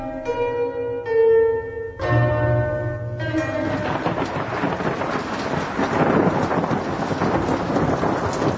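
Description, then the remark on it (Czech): A few sustained bell-like tones ring out, then a heavy downpour begins at night in Skadar: a dense, steady roar of rain with low thunder rumbling beneath it, loud and unbroken to the end. “A evo baš počinje pravi pljusak.”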